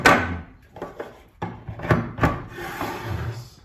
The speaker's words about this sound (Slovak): Ukázali sme si mechanický písací stroj na Braillovo písmo.